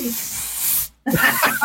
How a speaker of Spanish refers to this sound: Pablo Ibarra está sacando su spray para ahuyentar moscas